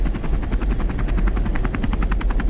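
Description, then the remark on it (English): A helicopter flies with a man on board, its rotor blades thumping in a fast, steady rhythm over a loud, deep engine drone that fills the whole sound. “This is him on a helicopter to start with.”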